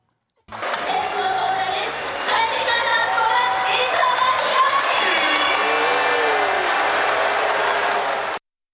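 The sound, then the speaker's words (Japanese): A stadium crowd cheers in a loud, unbroken roar mixed with clapping, individual shouts rising above the wash, sustained for about eight seconds before cutting off abruptly, at the team's home opening game of the season as player Isono is announced. “で今シーズンのね、ホームの開幕戦、磯野選手がゴールね、コールされましてね、うん、もう会場は待ってましたということでね、うん、大歓声にね、包まれたわけです。”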